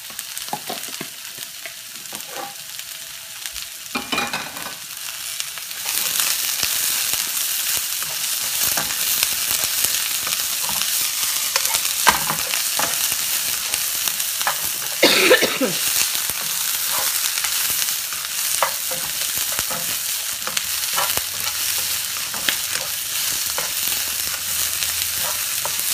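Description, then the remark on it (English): Vegetables and chilies stir-frying on high heat in a hot pan on a tabletop stove: a steady, bright sizzle that jumps louder after a few seconds, broken by intermittent scraping and clattering as the food is tossed. “You want these veggies to be semi-crunchy, so if you're using your stovetop and it's gas, it's gonna go much faster for you.”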